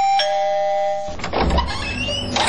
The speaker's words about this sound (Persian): خیلیت خواست آقا که دهی گل صبح پشت کوچه ما آمدی و طرف از زنگ دروازه را فشار میتی.